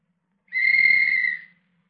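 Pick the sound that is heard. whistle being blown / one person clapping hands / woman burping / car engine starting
whistle being blown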